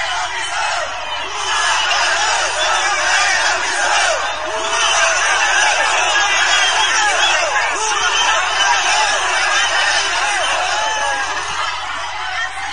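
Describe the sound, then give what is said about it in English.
A huge protest crowd in New York City roars and shouts together, chanting slogans against Brazil's Lula, a dense, continuous wall of many voices, loud and steady throughout with no single speaker standing out. “Even in New York City, a huge crowd assembling and chanting,”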